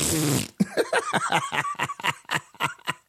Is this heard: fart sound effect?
yes